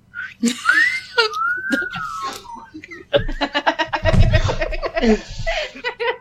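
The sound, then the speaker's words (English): A few people whistle together in rising and falling slides, then break into a loud burst of laughter and excited chatter. “We all whistle.”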